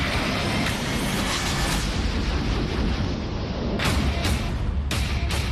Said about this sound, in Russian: И понравилось то, что артиллерия наша мочуганит полный рост. И реактивная, и ствольная.